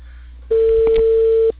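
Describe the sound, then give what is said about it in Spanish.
A telephone ringing tone sounds as someone places a call and waits for an answer: one steady, mid-pitched electronic beep lasting about a second, clear and fairly loud above a faint line hiss, with no voices. “Te estoy llamando. Pero estoy viendo timbre.”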